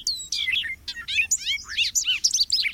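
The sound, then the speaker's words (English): A bobolink sings a rapid, bubbly, jangling song of high, tumbling metallic notes that warble up and down almost continuously, with no voices present. “With its bubbly, jangling song, like a meadowlark plucking a banjo, the bobolink has long been admired across North America.”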